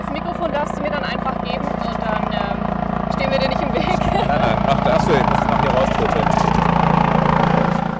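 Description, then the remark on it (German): A red rescue helicopter drones loudly and steadily as it arrives, its deep engine and rotor noise holding constant throughout, with faint voices buried beneath the roar. “Und jetzt halten wir gleich gar nicht auf, weil man kommt der Helikopter.”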